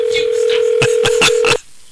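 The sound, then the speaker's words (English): A steady telephone dial tone hums while four sharp clicks land in quick succession as a phone is dialed at WGH Radio to call a listener, then the tone cuts off abruptly into quiet. Loud, no voices. “I got to learn how to dial a phone.”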